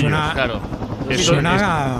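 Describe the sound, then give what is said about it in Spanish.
A helicopter's steady droning thrum fills the background throughout, fairly loud and continuous, while voices talk over it in the foreground. “como suena el helicóptero.”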